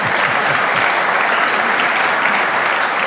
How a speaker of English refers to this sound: Please applaud for Jeff as well.